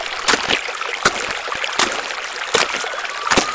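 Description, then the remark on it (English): A small river in a jungle flows with a steady rushing of water, broken by brief splashes that recur roughly every second. No voices are heard. “It's a small river.”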